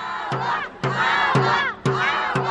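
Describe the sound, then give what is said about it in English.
A crowd of protesters on the steps of Fresno City Hall chants "agua" over and over in a loud, steady rhythm, about two shouts per second, voices merging into one forceful group cry. “Those protesters on the steps of Fresno City Hall shouting agua, agua, agua underscored the issue being made by Republican members of the House Natural Resources Committee, who arranged that meeting.”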